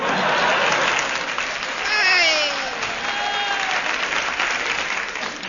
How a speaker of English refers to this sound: Enter Blue Bottle. Pauses for audience applause.